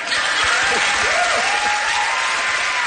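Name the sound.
audience applause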